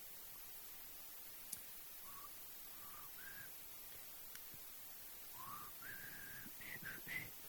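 Faint, breathy whistling by a person who cannot get their whistle to work, which keeps breaking off: a few short, wavering tones sputter out, then a cluster of weak attempts near the end, all over a steady background hiss.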